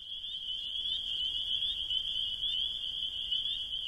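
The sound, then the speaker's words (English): A steady, high-pitched chorus of frogs trills continuously, with faint repeating chirps riding on top of the drone and no voices present. “So, and I thought nobody would even notice the frogs, but it's really been probably the most asked question I've been asked on this record, which is kind of exciting.”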